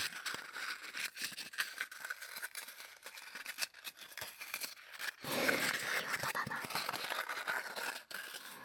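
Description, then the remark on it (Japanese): Repeated sticky dabs and light peeling crackles as packing tape is pressed onto and pulled off a sweater, an irregular quick rhythm that gets denser and louder partway through, with a brief quiet voice. “というわけで今回お送りしたのは、ガムテープでセーターなんかをペタペタとする音でした。”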